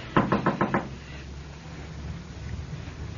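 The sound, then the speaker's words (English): Five quick, firm knocks in a steady rhythm on the door of a place with rooms to rent, followed by a low, quiet background hum with no other sounds. “Come on, somebody. Answer the door.”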